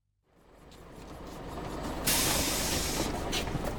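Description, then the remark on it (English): A bus that stops at Museum Street idles with a steady low engine rumble, then a loud burst of air-brake hiss cuts in partway through and lingers. No one speaks. “Does this bus go to the museum?”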